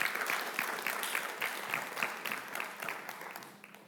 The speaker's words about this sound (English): Thank you, guys. Can you applaud them? Thank you. Thank you so much.